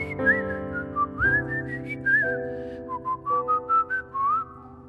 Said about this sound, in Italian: Ma perché l'amore ci sorprende, ci illumina e ci stende, ti trovi sotto casa a fischiettar.